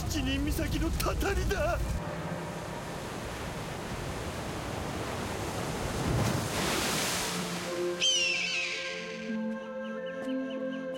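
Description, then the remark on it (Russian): Steady, hissing sea waves roll throughout, swelling into a louder surge near the middle before easing, near the land of Kitabayashi. Faint tonal sounds drift in at the start and again near the end. “Я слышу звук моря.”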